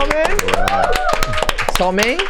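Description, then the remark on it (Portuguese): An audience claps to welcome a guest, a steady, dense patter of sharp slaps throughout, while voices call out and cheer loudly over the applause. “Você gostou das palmas da turma?”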